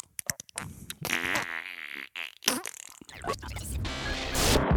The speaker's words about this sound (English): Is that how we're going to start the show? Just fart noises?